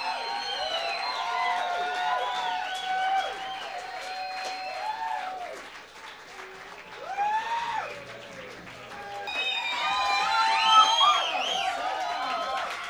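A crowd applauds and cheers loudly for a band at a live show, with sharp whistles and shouts over steady clapping; the noise dips briefly midway, then swells again and carries on.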